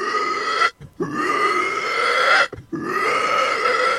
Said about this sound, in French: On a un petit cochon, là, tu vois, là. Il est sympa et tout, mais tout le temps en train de... Il est méchant. Peut-être méchant, tu vois.